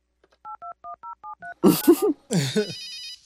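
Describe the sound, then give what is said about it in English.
Six quick touch-tone beeps dial a phone number on a public phone, followed by a couple of loud noisy bursts and then a short, high electronic ring as the call connects. “I hope the number on that business card he gave me is his real phone number.”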